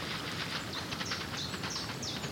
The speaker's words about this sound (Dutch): Geweldig. De eland laat het al horen met al dat gespetter.